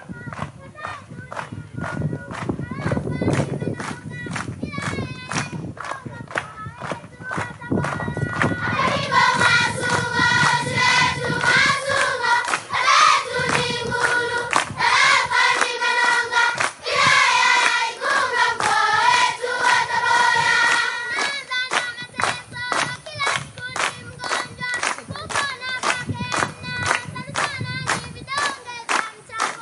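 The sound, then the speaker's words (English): A group of elementary school children sings a song of thanks loudly together over steady, rhythmic hand clapping that runs the whole time, with the voices swelling strongest through the middle stretch. Recorded as an amateur phone video. “This is elementary school. You can just crank the sound because they were singing loud.”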